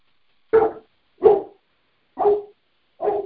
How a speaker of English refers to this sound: Sorry, my dog. Sorry. He was quiet the whole time we were muted. Figures, right?